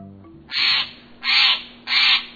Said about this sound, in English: As December days shorten, you may wonder where birds, including this Steller's jay and others, spend the long, cold nights.